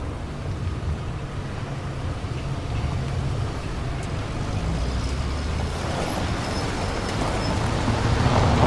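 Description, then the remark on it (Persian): Two cars carrying several occupants approach two people standing in the desert, with a steady, low engine rumble and broad road noise. The sound grows gradually louder toward the end, and no one speaks. “دو تا ماشین با تعدادی سرنشین سمت محب و نعیم میان”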